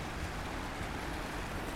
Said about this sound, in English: You can hear the river running quickly. It is full of mud and silt from the rainy day, that is today.